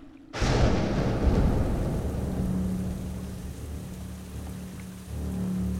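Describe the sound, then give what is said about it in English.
Heavy rain bursts in abruptly and keeps pouring in a dense, steady hiss, with a low rumbling undertone like thunder throughout. No voices are present. “Suddenly, the clouds broke and the rain came.”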